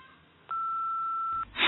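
A single steady electronic answering machine beep, sounding after the recorded greeting asks callers to leave a message, holds for about a second over faint line hiss, followed by a burst of noisy rustle.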